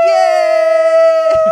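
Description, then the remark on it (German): An inflatable toy muffin with a candle on top lets out one loud, high-pitched squealing tone, held steady for over a second before it sputters and breaks off. “einen kleinen Muffin, einen aufblasbaren Muffin in der Hand mit einer Kerze drauf und der macht ganz komische Geräusche.”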